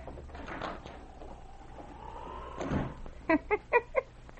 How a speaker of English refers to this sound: Granny Foss was still chuckling to herself several moments later when the door opened and Chet Logan entered the cabin.